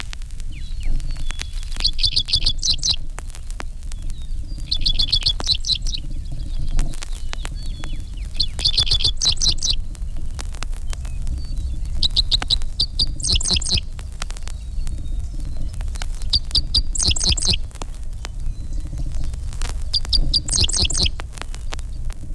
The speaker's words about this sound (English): The Dick Sisal resembles a miniature meadowlark. In spring, his persistent dick, dick, sis, sis, sis is heard from every other fence post.